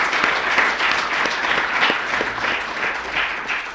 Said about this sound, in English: Awesome. Can we give them all another round of applause, please?